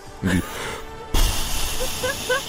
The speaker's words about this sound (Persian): یعنی هر خبری، یعنی هر چی خبر، خبرای مثلا سخت و داغ مثلا بعد و اینا بیشتر باشه، این کمپرسور بادش بیشتر کار میکنه.